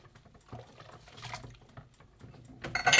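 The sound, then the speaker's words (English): Dishes and pots clink and clatter amid splashing water as pots are washed up, with a tap running louder near the end; busy sink sounds with no talking. “Washing took pots up. This really is just the grind, isn't it?”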